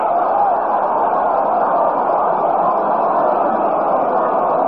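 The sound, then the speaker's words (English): A large stadium crowd at a baseball game roars steadily as the bottom half of the fourth inning starts, a dense, continuous wash of many voices cheering and murmuring at a loud, even level for several seconds. “Crowd stirring up some excitement here as we start the bottom half of the fourth.”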